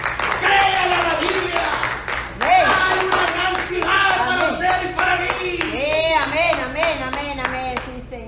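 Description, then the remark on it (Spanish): An audience at a Spanish-language church service applauds for Christ with steady, dense clapping throughout, mixed with overlapping cheers and voices calling out, some higher-pitched, sustained at a fairly loud level for the whole stretch. “Den un aplauso a Cristo, hermano.”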